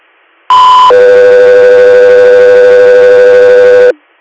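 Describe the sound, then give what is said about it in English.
A loud two-tone dispatch radio alert for the unit Go 3 Air: a short, higher steady tone jumps straight into a lower, longer steady tone held for about three seconds, then cuts off. No voices. “Go 3 Air, stand by for tones.”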